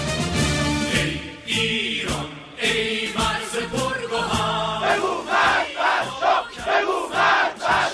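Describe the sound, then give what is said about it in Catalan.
A large crowd in Iran shouts "death to the Shah" in unison during the revolution that overthrew Reza Pahlavi's regime, loud massed voices rising and falling in repeated bursts, with no single speaker standing out. “Crits de mort al Shah en la revolució que fa 40 anys va derrocar el règim de Reza Pahlavi.”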